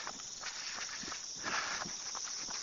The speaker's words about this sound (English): Very, very quiet. Other than the crickets, some frogs maybe.